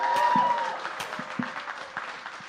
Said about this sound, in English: Praise the Lord. Now give Jesus a hand clap.